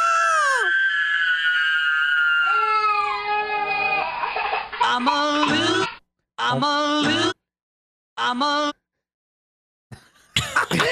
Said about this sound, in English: Scream at the end.